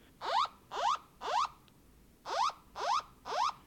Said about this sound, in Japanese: これが緊急地震速報です。